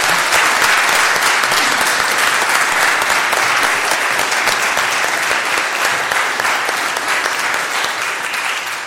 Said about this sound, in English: Well, I think that was amazing. That was really good, wasn't it? Should we give them all a round of applause?